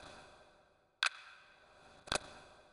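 Two crisp clock ticks from an analog clock with hands (not digital) land about one second apart, sharp, over a faint steady background hiss with no one speaking.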